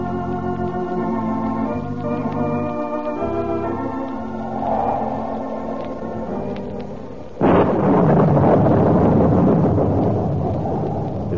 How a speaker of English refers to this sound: Stormy night in Reina de Los Angeles, and none except those with urgent business dare leave their haciendas.